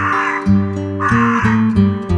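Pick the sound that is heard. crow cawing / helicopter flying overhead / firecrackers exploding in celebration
crow cawing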